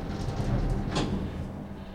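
Elevator doors slide shut over a steady low mechanical rumble, with a single soft clunk as they meet midway through; no voices.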